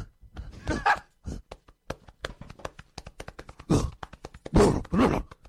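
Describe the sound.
Someone imitates a gorilla with grunts, huffs and hoots over rapid, irregular thumps of fists pounding their chest, with several louder vocal bursts rising above the drumming. They are acting like a gorilla for a minute on a dare during a live radio show.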